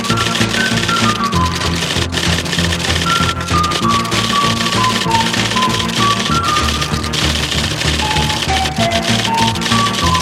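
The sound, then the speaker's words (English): Rapid typewriter keys clack in a steady, busy stream alongside a melodic music bed with a tinkling tune, the typing clear throughout. “But you'll be when you start punching those keys.”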